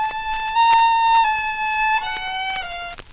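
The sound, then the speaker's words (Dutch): A broken violin plays a slow, simple tune of long sustained notes, stepping up and then down in pitch, sounding slightly out of tune, with no voices. “Mam, mijn viool klinkt zo anders.”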